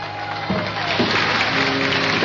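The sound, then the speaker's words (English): A crowd claps steadily for the people working behind the scenes at Radio Midwest, a dense, even patter of many hands that holds at a fairly loud level throughout, with a few faint tonal hums running underneath. “Special little round of applause for them, folks.”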